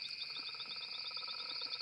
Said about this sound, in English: bullfrog noise